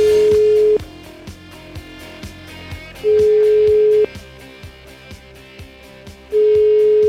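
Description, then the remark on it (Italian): A phone line rings out with a steady, mid-pitched ringback tone as a call is placed to Vittorio Sgarbi, three long beeps separated by pauses, over a quieter rhythmic musical beat. No one speaks. “Vai col telefono.”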